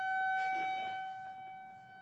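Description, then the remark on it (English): An alarm siren sounds alone with a steady, shrill electronic tone and bright overtones, holding constant pitch and loudness for about two seconds with no one speaking. “now our alarms are going on.”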